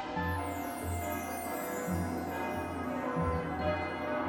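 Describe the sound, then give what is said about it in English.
The huge bells at the tower of Barnhart Swan's School of Magic, Fighting, and Dance in Kingstown ring in a steady, overlapping peal, with deep strikes about once a second and long shimmering overtones that keep the sound full and loud throughout. No voices are heard. “There is the monumentous sound of giant bells ringing.”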